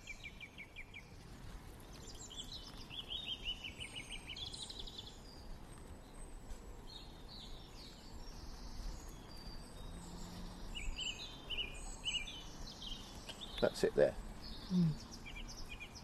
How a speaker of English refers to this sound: What's that? That's a song thrush.